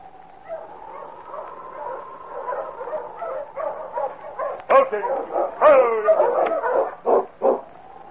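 A tired sled dog team, driven by Sergeant Preston into the small settlement of Cross's Landing in the snow, yipping and whining at first, then breaking into louder, sharper barks and yelps in quick, overlapping bursts toward the end.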